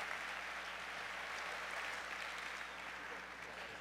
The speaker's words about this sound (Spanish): ¡Aplauso!